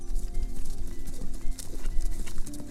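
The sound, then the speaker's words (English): Horse hooves clip-clop in a steady, continuous rhythm, the sharp knocks repeating over a low rumbling background with a faint sustained tone running beneath. “The prince thanked the fox for all his help, promised to give heed to his warnings, said farewell to him, and rode on, with the princess by his side and the bird Grip on his wrist.”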